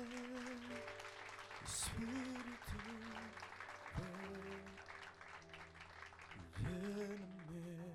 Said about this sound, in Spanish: ¿Quién más? Venga, denle un aplauso al Señor.